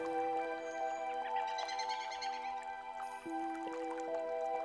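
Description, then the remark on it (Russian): Babbling stream water trickles and drips steadily, with a sparkling burst of droplets in the middle, blended with a soft sustained musical drone; no voices. “Вы слышите шелест листвы, пение птиц, журчание ручья.”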